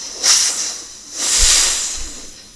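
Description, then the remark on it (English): A big snake hisses twice: a short, sharp hiss followed by a longer, drawn-out one. Both are breathy, with no talking. “Look at this. There was a big snake in the way.”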